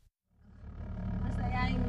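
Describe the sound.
From inside a moving car, a low engine rumble swells up out of near silence. Muffled, indistinct voices blend into the steady drone: parents talking in the front while the listener sits in the back seat, speaking their family's Filipino dialect.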